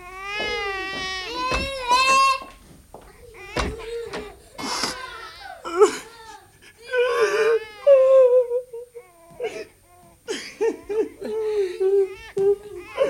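A girl cries and whimpers up close, with wavering, breathy sobs and shaky wails coming in uneven bursts and catching breaths throughout.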